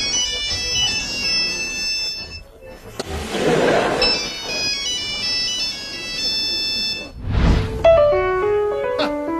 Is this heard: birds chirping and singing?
no